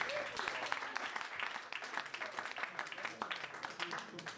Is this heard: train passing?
no